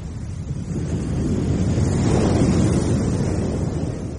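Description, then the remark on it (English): Sea waves wash steadily onto the shore behind the orange trees of an orchard, in a continuous, rumbling surge that swells toward the middle and eases slightly, with no voices present. “I listened to the sea sighing like a woman behind the orange trees in her orchard.”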